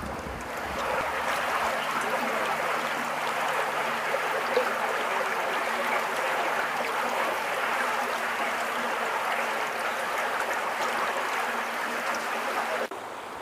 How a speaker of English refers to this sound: This is going to be the water coming through the culvert, or just downstream of the culvert.